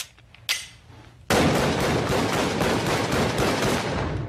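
A short click and a sharp crack, then a sustained burst of rapid pistol fire with evenly spaced loud shots continuing without pause until the end, as a full magazine is emptied again at Hannibal Buress after reloading.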